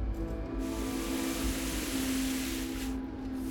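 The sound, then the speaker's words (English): A hose sprays water to wash down a mess, in a steady, rushing hiss that starts abruptly and runs for a few seconds before cutting off, with a low mechanical hum underneath. “Spraying down the mess.”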